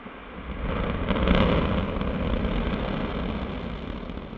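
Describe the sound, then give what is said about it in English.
An Orbital ATK Antares rocket, 14 stories tall and built partly in Chandler, roars at launch with a dense, steady rumble heavy in the low end, swelling to a peak early on and then holding as a continuous crackling blast, with no voices. “But this 14-story firecracker, an orbital ATK Antares rocket, was built partly in Chandler. We have ignition.”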